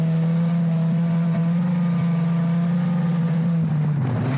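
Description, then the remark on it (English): A race car engine roars during ice racing across a frozen lake in Homer, Alaska, holding a steady, buzzing high drone before its pitch dips and wavers near the end. No voices are heard. “in Alaska, the Homer Ice Racing Association has been organizing car races across a frozen lake every weekend for its members as well as spectators since 1955.”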